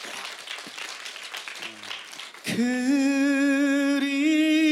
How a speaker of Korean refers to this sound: 우리 살짝 한번 우리 박수를 한번 청해 들어보면 어떨까요?